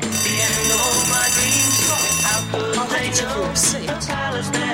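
A loud, steady electronic security alarm at a Safeway store blares for a couple of seconds, set off by a woman leaving with a man in her grocery buggy, then cuts out into a jumble of voices and bustling movement.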